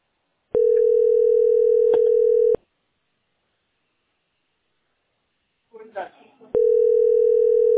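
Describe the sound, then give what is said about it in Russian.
A telephone line tone while holding in a call queue at position 46: two long, steady, loud tones separated by a pause of several seconds, with a brief muffled voice-like sound just before the second tone. “Вот звоню, а видишь, ваша позиция.”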